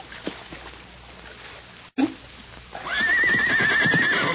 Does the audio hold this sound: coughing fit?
no